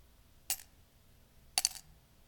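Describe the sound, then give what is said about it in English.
Copper coins drop twice, each landing with a bright metallic clink and a quick rattling bounce, clear against a quiet background with no talking. “Do you still have copper coins in your pocket? Copper coins.”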